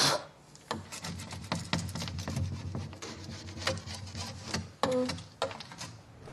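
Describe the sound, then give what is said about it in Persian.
Dry, rasping scrapes repeat in uneven strokes, a blade being dragged across glass to lift off old paint, with a few sharper clicks and squeaks between the passes. No one speaks. “دارم رنگای روی شیشه رو میتراشم.”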